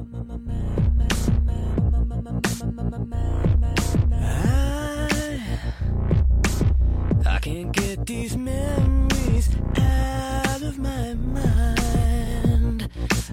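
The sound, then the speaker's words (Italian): The opening of a band's first song plays loud and continuous, with a steady drum beat over a sustained low drone and a bright melodic line gliding between notes. No one speaks. “E quindi praticamente stiamo lanciando la nostra prima canzone”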